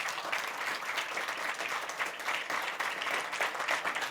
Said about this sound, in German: Einen herzlichen Applaus für AP Segge, bitte.